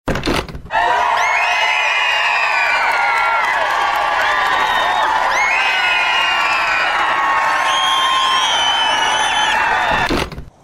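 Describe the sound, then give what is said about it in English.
A large crowd of fans cheers and screams excitedly, a dense, loud wall of overlapping high-pitched shouts that holds steady for about ten seconds before cutting off abruptly. “On the tarmac, a crowd of podcast fans is waiting expectantly.”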